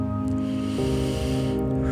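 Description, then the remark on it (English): A slow, deep breath drawn in and let out, airy, over a steady sustained musical drone, with no talking. “Breathing in and exhaling out.”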